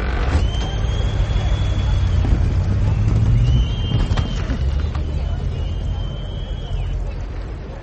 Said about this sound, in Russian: Толпа, это было записано на рынке в Минске, например. Свист, конечно же, подложили, поскольку это усиливает эффект. Ну, это логичный свист, наверное, свистели.